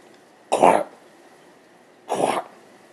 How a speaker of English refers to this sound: lurched forward and started hacking deeply, bracing her legs out to support her weight as she struggled to find air between the thick, wet coughs.